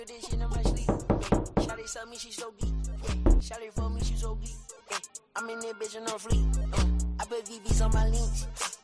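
Close, resonant knocking on a door in 8D audio comes in quick bursts of several raps, pausing between sets, with an immersive, surrounding quality as if someone very near in the same room is knocking.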